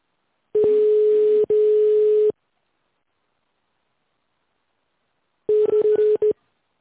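telephone touch-tone dialing

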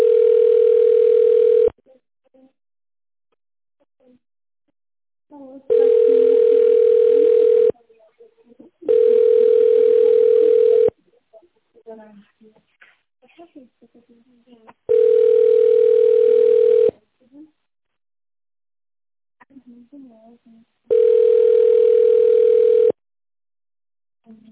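telephone ringback tone

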